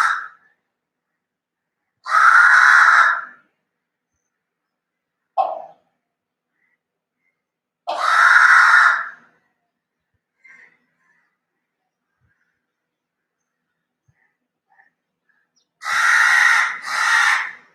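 A crow that comes in the evening asking for water caws loudly, harsh calls spaced a few seconds apart with brief quieter chirps between, ending in a quick double caw.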